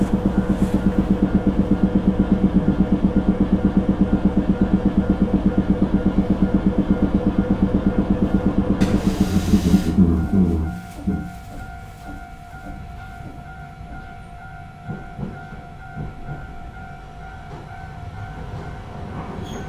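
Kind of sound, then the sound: vehicle, train arriving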